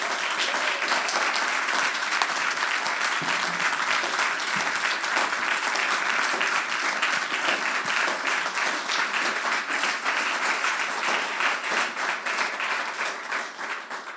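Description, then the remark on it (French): Sustained applause from an audience at a church, thanking someone for 40 years of work keeping things in order outside the church, a dense wash of many hands clapping at a steady loud level for the whole stretch, easing slightly toward the end with no speech over it. “Ouais, on peut applaudir.”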